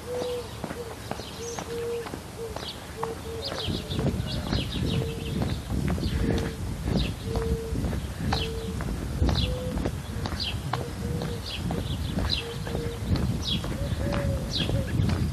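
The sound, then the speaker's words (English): Doves sitting up on ridge poles around a neighborhood call to each other, cooing back and forth in steady repeated phrases, while higher chirps from smaller birds and a rumbling outdoor background fill in underneath. “Doves calling to each other, sitting up on the ridge poles of Roost.”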